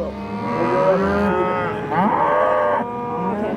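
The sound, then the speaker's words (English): Several black Angus and Red Angus cattle moo loudly before being fed, their long, drawn-out calls overlapping one after another with barely a pause, with no voices present. “The black ones are Angus. The red ones are Red Angus.”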